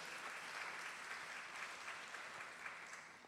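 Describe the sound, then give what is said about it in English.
A crowd applauds steadily for the church's pastor, a dense wash of many hands clapping at once that holds at an even level throughout. “Can we give him a round of applause for his leadership and his role?”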